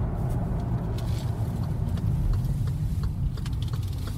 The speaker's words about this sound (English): So we're just going past an exit on the motorway for a place called Thornton